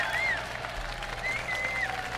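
sound effect, applause sound effect

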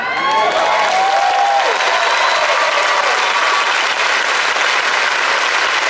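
crowd, crowd applauding and cheering

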